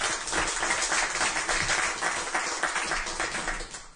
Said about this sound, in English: So I think everybody should give a round of applause to them for doing this.